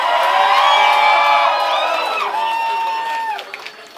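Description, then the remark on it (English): A large live crowd cheers and screams loudly, many high voices overlapping in a sustained roar for a few seconds before it thins out and fades. “Those of you who did not scream when I said that shit, tomorrow you're gonna get toe fungus.”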